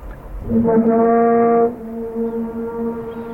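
A low, humming whale call recorded in a bay, with a rich stack of overtones, swells up strongly for about a second, then carries on as a softer, steady drone to the end, with no voices.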